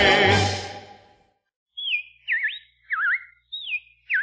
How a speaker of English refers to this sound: Well, the robins are back. That's a sure sign of spring.